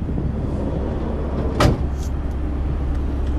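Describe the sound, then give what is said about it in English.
A bus on its route with pickups on the road into Skibbereen idles with a steady low rumble throughout, broken by a single sharp knock or door-like clatter midway, as if someone is stepping aboard. No one speaks. “I haven't been on this bus now for 2 months because I was away in hospital, and it was last week I started back again.”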